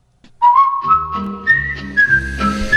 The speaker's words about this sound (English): And of course, the sound of that distinctive whistle can only mean one thing. It's time for Dave Schwann and his far-flung forecast.